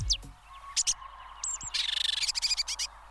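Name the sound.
red-backed shrike call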